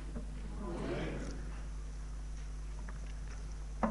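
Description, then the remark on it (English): A single soft slurping sip of water lasting under a second, followed by quiet low hum and a small click near the end. “That feels really wicked, having a sip of water.”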